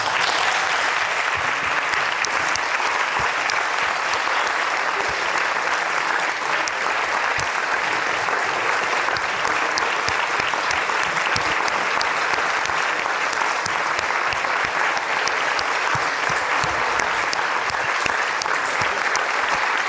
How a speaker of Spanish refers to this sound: Yo no les quiero pedir un minuto de silencio en los círculos que nosotros andamos en Chile. Les quiero pedir un minuto de aplauso por todas estas personas que han sufrido por esta violencia.